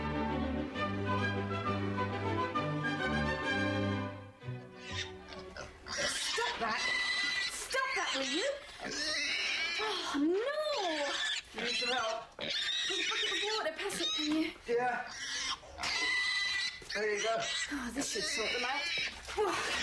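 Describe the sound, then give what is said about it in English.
Several pigs in a pen squeal loudly and almost without pause, their shrill, wavering cries overlapping after a few seconds of steady music at the start. “is having trouble with the pigs.”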